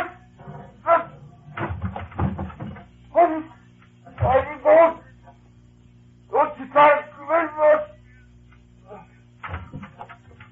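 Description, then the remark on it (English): A dog barks and yelps in short, excited bursts, several clustered volleys with brief pauses between, fairly loud over a low steady hum. “Tell me, get away from that dog.”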